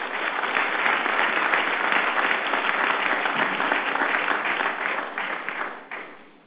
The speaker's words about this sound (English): Applause for these directors, please.